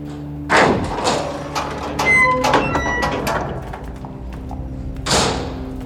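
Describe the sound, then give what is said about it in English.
A heavy basement door opens with a dull thud, a drawn-out creaking squeal of hinges in the middle, and another solid thump as it settles; no one speaks. “Is that the door to the basement? Must be.”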